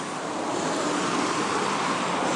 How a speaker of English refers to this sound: Not that you can escape the noise in the background, really. Very busy road, sadly. It's a very busy road that winds through a beautiful part of the Peak District.